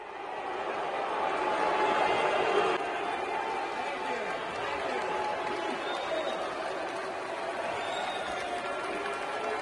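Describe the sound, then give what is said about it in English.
A large crowd boos and heckles Senator Mitt Romney as he takes the platform to speak, calling him a traitor and a communist, in a dense, sustained loud roar that runs the whole time, with overlapping jeering voices and no single clear speaker. “They were booing the guy. They were heckling.”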